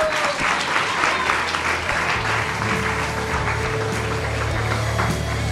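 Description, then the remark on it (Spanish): Steady audience applause for a guest author fills the whole stretch, a dense, even wash of many hands clapping at a fairly loud level, with a faint low hum running underneath. “¡Un aplauso!”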